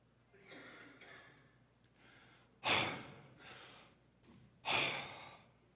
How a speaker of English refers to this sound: Have you done any gasping like that this morning? You know the way you used to do when you were just knee-high to a grasshopper and you came running down the stairs on Christmas morning, all out of breath